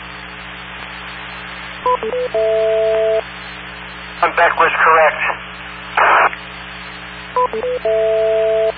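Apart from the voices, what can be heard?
radio repeater beeps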